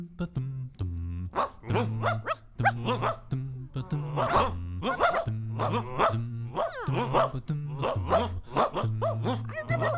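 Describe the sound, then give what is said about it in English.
A dog barks repeatedly in quick, rhythmic bursts, loud, over a steady low bass line that suggests music playing underneath. “Hey, Lee, your dog is freaking me out.”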